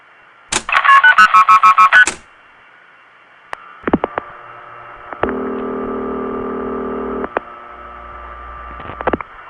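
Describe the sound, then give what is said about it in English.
A quick string of about ten loud, beeping telephone dialing tones played from tape to dial a long-distance test number, followed by clicks, a steady line tone lasting a couple of seconds, and more clicks over a low background hum. “I have a tape of tones here.”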